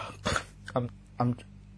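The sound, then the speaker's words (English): Someone blows their nose in three short, forceful snorting bursts about half a second apart, with quiet pauses between and no talking, trying to clear a painful, blocked ear. “I'm blowing my nose.”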